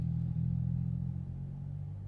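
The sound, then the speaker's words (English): A motorcycle passing by rumbles with a low, steady engine drone, easing off slightly in loudness as it continues. No one speaks. “An intruder just came by on a motorcycle.”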